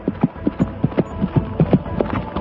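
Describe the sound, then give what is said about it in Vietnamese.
Horse hooves pound at a gallop as Kiều Phong (Qiao Feng) mounts and whips his horse away, a rapid uneven clatter of hoofbeats steady in loudness, with a low rumble underneath and no voices. “Nói xong, chàng chắp tay từ giã, xoay người nhảy lên ngựa, ra roi chạy ngay.”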